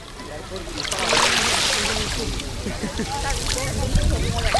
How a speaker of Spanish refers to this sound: Así suena hoy la playa de Salobreña. Bueno, lo poquito que suena, porque a diferencia de días anteriores, hoy el mar está aquí en silencio. Tan solo unas pequeñas olitas, a ver si podemos captarlas.